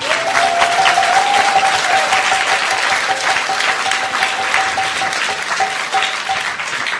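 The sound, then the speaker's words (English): An audience breaks into dense, sustained applause for Balarama, a thick wash of many hands clapping at a steady, loud level throughout, with a faint held tone humming beneath it. “Give him a big applause.”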